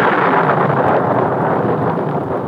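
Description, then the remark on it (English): A loud clap of thunder during a rainstorm with lightning rolls into a dense, sustained rumble that fills the whole moment without easing, with no voices over it. “And with the second clap of thunder, the door opened”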